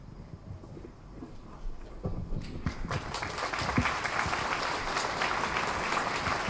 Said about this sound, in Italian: Grazie. Grazie dell'applauso e l'incoraggiamento soprattutto.